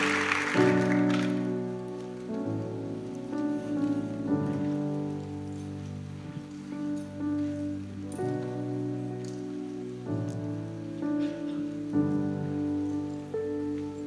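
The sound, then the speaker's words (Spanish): A church audience applauds the Lord and the Holy Spirit after a teaching, in a steady, crackling wash of clapping that carries through the whole stretch, underneath loud sustained keyboard chords that shift every few seconds. “Démosle un aplauso al Señor y al Espíritu Santo por esta enseñanza.”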